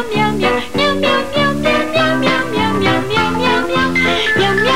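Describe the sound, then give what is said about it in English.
A rapid run of sung meows, about a dozen gliding cat-like cries voiced in steady rhythm over a bright musical backing, loud like a radio jingle, in a radio advert for a new cat food for dogs. “The new cat food for dogs.”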